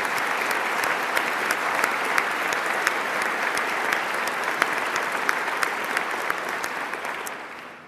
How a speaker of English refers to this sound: And so let's applaud him in his absence.